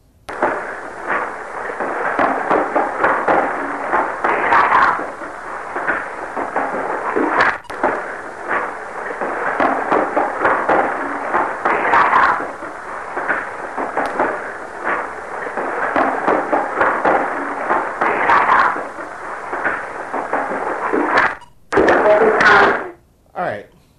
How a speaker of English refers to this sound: You heard the heavy footsteps. The footsteps. The footsteps was the investigator walking up and down the steps. It was a wooden staircase